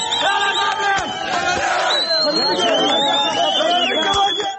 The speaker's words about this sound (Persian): اینجا مریوان و فریاد شعار مشهور اعتراضات سراسری. زن زندگی آزادی که حالا روز و شب در خیابان‌های ایران تنین انداز می‌شود.